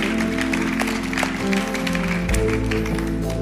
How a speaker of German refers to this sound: Vielen, vielen Dank. Applaus, danke für euren Beitrag. Yeah.